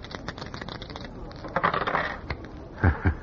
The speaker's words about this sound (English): Hey, you have still got those old dice. Hmm? Oh, sure. I kept them for luck. What do you want me to roll? A natural. 7.